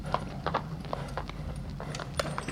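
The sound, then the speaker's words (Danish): Horse hooves clop steadily over cobblestones while cart wheels rattle and rumble beneath, a continuous low grinding under the irregular hoofbeats. “Det lyden af hestenes hove og hjulene skramlen over brostenene.”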